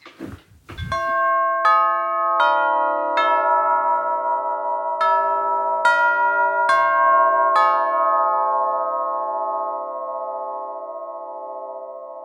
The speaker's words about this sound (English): So that is a long bell, eight-note melody, Westminster peal, played on a vintage long bell door chime. The long chime is, exactly as you would imagine, long. You can picture it as sort of a flat wind chime up against the wall.